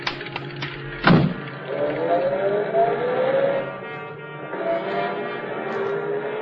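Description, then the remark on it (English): A car pulls away, its engine revving up and climbing in pitch, easing off, then accelerating again. A sharp thump comes just before it starts moving, and no one speaks. “slow down. Drive real slow. If you drive fast, maybe a cop will see you, so...”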